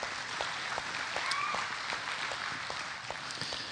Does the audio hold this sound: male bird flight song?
no